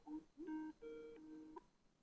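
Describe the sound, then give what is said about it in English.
A telephone rings with a short electronic ringtone: a few steady, pure-sounding notes in quick succession, fairly quiet, with no one talking. “You're on answering phones and you're doing that.”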